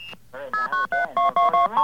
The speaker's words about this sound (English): That sounds like a blue box. Gee whiz, yeah. Who's on the line here? Someone's playing with the blue box in this line, aren't they?